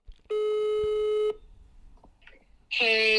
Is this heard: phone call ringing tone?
yes